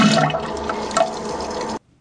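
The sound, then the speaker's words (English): A toilet flushes with just water, a steady rush of gurgling water that lasts under two seconds, then cuts off abruptly into near silence. “Let me hear the second one with just water.”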